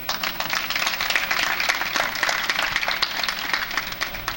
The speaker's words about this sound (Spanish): A la primera y fácil, ¿no? Aplauso.